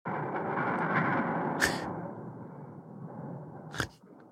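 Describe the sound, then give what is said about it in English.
A slow-motion video recording of a fist punching a punch bag: a long, dense, rumbling roar with two sharp snapping cracks partway through, dragging out like deep thunder. No one speaks. “I've got a slow motion video of me punching one of those punch bags. This is the impact.”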